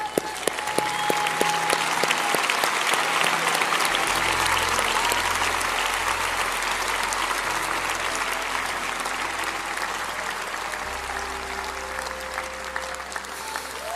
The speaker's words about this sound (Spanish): Más gente llegando, aplauden.